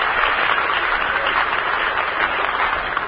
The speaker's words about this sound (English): Let's send them a cheer from the Hollywood home base. Have a good time back there, you can call Ashton.